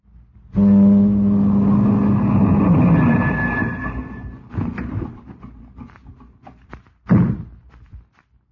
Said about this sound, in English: At 11:02, you stepped out onto the fog-enshrouded deck. Then you heard a car approach.